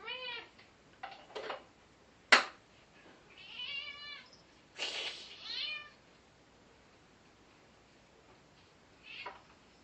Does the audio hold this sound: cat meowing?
yes